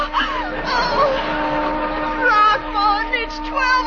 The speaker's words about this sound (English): Listen, a whistle. Oh, it's the old tack factory.